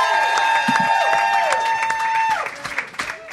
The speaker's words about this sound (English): I was really enjoying that. Yeah. You can keep clapping if you like.